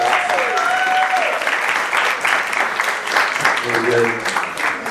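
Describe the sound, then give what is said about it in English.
Sustained audience applause at a church service, thanking the worship team for leading worship: a dense steady wash of clapping lasting the whole stretch, with faint tonal music or voice lines showing through briefly. “So they don't really do it for our applause, but I'd like to thank them one more time for leading us in worship this week.”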